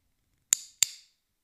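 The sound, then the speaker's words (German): Two crisp, bright clicks from a small plastic dog training clicker, a quick press-and-release pair about a third of a second apart, fairly loud against silence. “Viele sehen im Klicker nur ein kleines Plastikding und jeder kennt dieses unverwechselbare Geräusch.”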